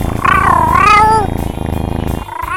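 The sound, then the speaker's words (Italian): A single loud, drawn-out meow of a domestic cat with a wavering, rising-then-falling pitch, followed by a steady background drone for the rest of the moment. “Ho letto su internet che vendono un gatto che mangia neve.”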